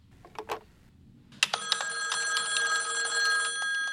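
A telephone rings with a sustained, bright metallic bell tone after a couple of short clicks or taps, the ringing continuing steadily and fairly loudly until the end, with no one talking.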